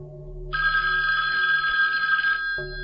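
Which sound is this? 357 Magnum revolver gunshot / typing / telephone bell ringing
telephone bell ringing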